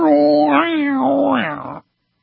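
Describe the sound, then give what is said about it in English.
A whale call: one drawn-out, loud tonal moan lasting under two seconds, its pitch wavering and sliding up and down before it cuts off, with no other sound around it. “But the whales aren't hurting anybody.”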